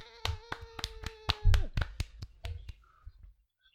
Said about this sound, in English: And the crowd goes wild.